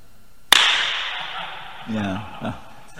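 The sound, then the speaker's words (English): A single sharp hand clap rings out in a very reverberant room, its echo trailing off slowly for more than a second before a voice briefly speaks over the fading tail. “It's long echo. That means you hit the drum and that's still going on while you hit the next beat”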